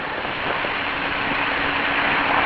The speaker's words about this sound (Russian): И пока вы тут вместе переход, значит, мотор работает в полном объеме, разъем с утыком правильно и послал уже информацию.